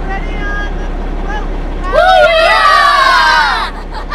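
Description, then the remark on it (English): A group of children aboard a ship, hauling on the sail from one side of the gaff, shouts together in one loud, drawn-out unison yell lasting a couple of seconds as they take their turn to yell back, rising over steady outdoor background noise and faint murmuring before trailing off. “All right, it's our turn to yell back.”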